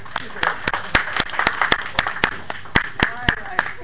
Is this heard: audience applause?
yes